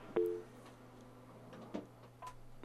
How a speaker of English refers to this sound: Okay, dial tone.